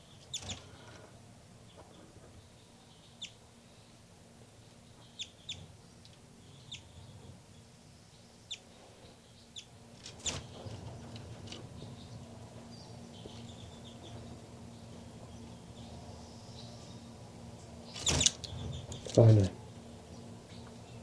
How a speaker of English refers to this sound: Baby birds calling on the nest on the side here.